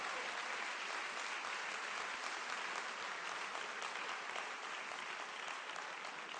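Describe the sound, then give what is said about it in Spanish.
A crowd claps steadily for several seconds in applause for Jesus during a religious sermon, a dense, even wash of many hands with no clear individual beats and no voices standing out. “Tú y yo, si realmente estamos enamorados de Jesús, tú y yo, si realmente estamos enamorados de Jesús, dale un aplauso a Jesús que está vivo, que está resucitado.”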